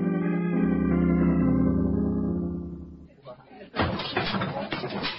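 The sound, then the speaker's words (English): Sustained organ-like music fades out, then a loud, sudden crash bursts in as a display is knocked down, followed by a noisy clatter of falling objects that keeps rattling to the end. “Who knocked down the display?”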